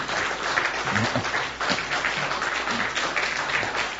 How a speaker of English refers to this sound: And God, I told you, when I'm preaching, you don't need to clap. But if you decide to clap, then clap properly.